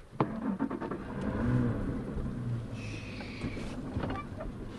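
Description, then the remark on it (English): The outboard motor of a center console bay boat drones steadily as it navigates the Barataria Basin, a collection of canals, bays and bayous south of New Orleans, Louisiana; a continuous low rumble with some wind and water noise over it, and no one speaking. “navigates a center console bay boat through the Barataria Basin, a collection of canals, bays, and bayous south of New Orleans on the west side of the Mississippi River.”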